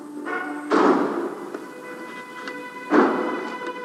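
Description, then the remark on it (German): Two heavy door slams, about two seconds apart, each a sharp booming thud that echoes briefly, with a steady tonal hum or faint music sustained underneath. “Manche im Publikum waren begeistert, andere verließen Türe knallend den Saal.”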